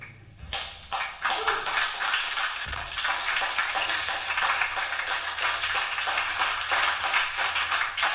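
A crowd applauds steadily, a dense wash of many hands clapping that starts abruptly and holds at an even, fairly loud level for several seconds, with no voices over it.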